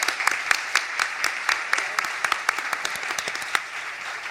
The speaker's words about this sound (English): We're very, very grateful for our extremely cool guests to agree to be here with us on this gorgeous spring night. So let's give them all a round of applause for coming down and being here at Policy in the Pint tonight.